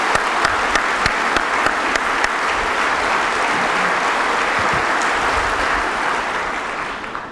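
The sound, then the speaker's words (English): A crowd in Mobile applauds the men and women serving them: a steady, dense wash of many hands clapping at an even, loud level, with a few sharper individual claps standing out early before the applause tapers slightly at the end. “And so as I look around the room and I see all the men and women serving us, let's give them all a huge round of applause and appreciation.”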